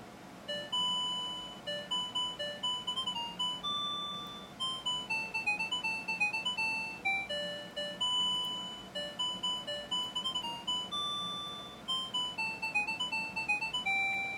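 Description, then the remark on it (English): An alarm clock goes off at 5:35 a.m., ringing with a melodic, bell-like chime tune, bright high notes struck in a steady, repeating rhythm, each decaying quickly, playing on its own without any voices. “All right, I'm going to turn the alarm off, so I'm going to flip the set switch down.”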